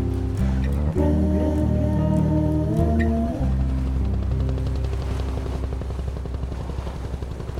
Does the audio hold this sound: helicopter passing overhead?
yes